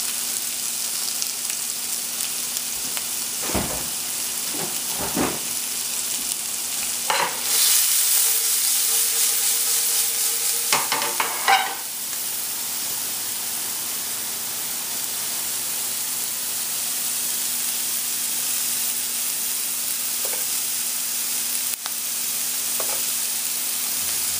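Bell peppers and onions sizzle steadily in a pan as the bell pepper and onion mixture is added, a constant crackling hiss running the whole time, with a few sharp clatters and scraping bursts of stirring midway. No one speaks.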